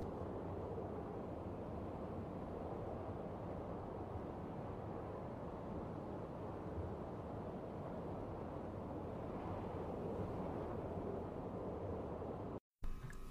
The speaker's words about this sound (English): Near the waterfall, I can hear it flowing.